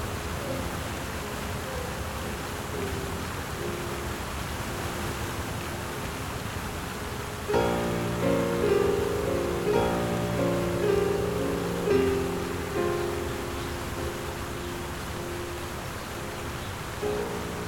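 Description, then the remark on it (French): A waterfall bubbles over rocks in a steady, unbroken rush of water at moderate volume. About halfway through, soft sustained musical tones rise over the flowing water. “Là, sous mes pieds, une cascade bouillonnait dans une chute de pierres, lavée d'orange, de vert acidulé et de bleu.”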